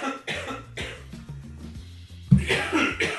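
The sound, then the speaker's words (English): A fit of coughing: several harsh, breathy coughs in irregular succession, with the loudest burst near the end, and no talking. “I told you I'm restarting, and now you're coughing again.”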